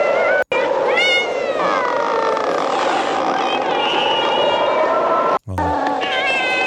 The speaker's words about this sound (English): There's like a dying cat in this thing.